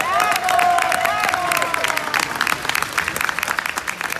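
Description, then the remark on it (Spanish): Loud, steady applause from a crowd for the athletes of Mexico's winning women's team, with dense rapid clapping and some whistles or cheering voices early on, continuing for several seconds and thinning slightly toward the end. “Fuertes aplausos para las atletas.”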